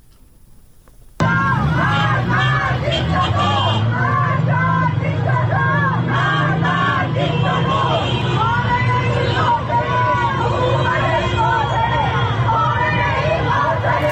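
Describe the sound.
A large outdoor crowd in Tehran, protesting the death of Mahsa Amini, shouts and chants slogans against government officials, loud, with traffic rumbling beneath the voices; the din starts abruptly after a brief quiet moment and keeps going steadily.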